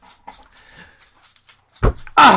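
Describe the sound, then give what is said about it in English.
Light metallic jingling from a dog named Roscoe, like collar tags, rattles in quick repeated bursts as the dog moves about, ending in a couple of louder, fuller shakes. “Oh, the jingle, by the way, is not Santa's sleigh. It's my dog, Roscoe.”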